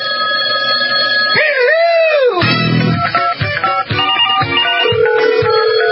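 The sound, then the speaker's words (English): A loud telephone ringtone from a radio show's call-in line, with steady harmonic tones that swoop into a warbling, howl-like rise, then break into busy, jangling ringing that continues throughout, with no one speaking. “And this is what it sounds like when we get one.”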